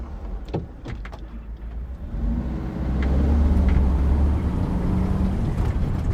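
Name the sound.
bus driving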